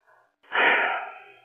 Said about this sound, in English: Oh, I can hear you breathing.